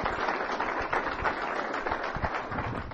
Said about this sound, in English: and he deserves a huge round of applause.